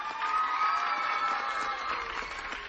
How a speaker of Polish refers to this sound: Armia dzieci, brawa dla nich.